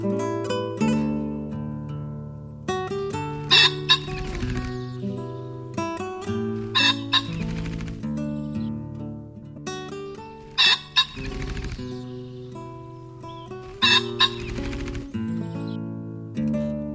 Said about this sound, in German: Das war der Fasan.